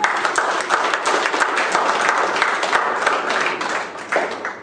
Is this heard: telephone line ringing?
no